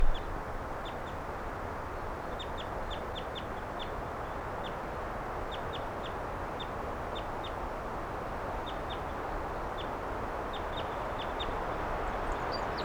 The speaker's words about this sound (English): Wild bird. And the birds, some of the wild ones came right here and wanted to perch on the microphone. Now there are some wild ones right here, next to the car.